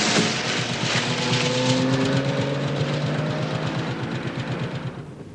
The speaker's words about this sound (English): Regaining his feet, the prisoner scrambles toward the car, but collapses before he can get in. He's pulled into the car, which drives off into the night.